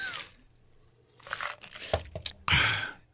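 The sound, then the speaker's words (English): Someone takes a sip of water, with a few short crinkling, crunchy bursts like a plastic bottle being squeezed, ending in one louder rustle. No talking. “Hey, have a sip of water. Hold on.”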